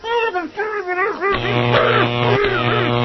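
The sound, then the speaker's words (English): A man lets out a wavering, strained groan, then a loud, steady electric buzz of a taser shock, used by a police officer on a man refusing to comply, kicks in and drones on with his cries tangled in it. “Therefore, I shall have to tase you.”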